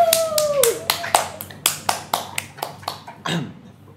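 Brief applause: about a dozen sharp, distinct claps in a fairly steady rhythm, like a small audience clapping, with a thin high tone briefly sounding at the start.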